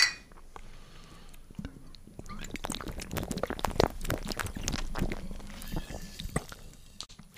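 Glasses clink together in a toast, followed by a cluster of sharp clicks and soft gulping and sipping sounds as Morelli raspberry spritzer is drunk in Vienna, with no talking.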